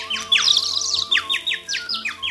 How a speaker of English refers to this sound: wonderful spring day. The whole world is happy. The sun is shining and the birds are singing.